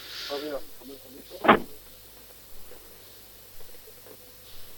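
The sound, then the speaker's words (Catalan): A single sharp, loud thud like a car door slamming shut, heard over a mobile phone connection, followed by quiet background hum with faint muffled voice-like sounds around it. “Sentíem un cop de porta, com si tanqués la porta del cotxe.”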